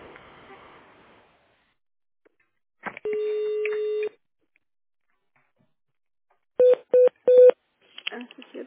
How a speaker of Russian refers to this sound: Вас приветствует компания «Диалог Терминал». Наберите в тональном режиме внутренний номер сотрудника или дождитесь ответа секретаря.